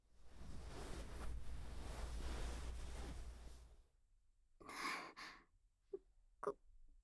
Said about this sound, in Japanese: これ、やっぱり先生の吐息が当たって、なんだか恥ずかしいですね。